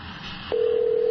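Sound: telephone dialing tones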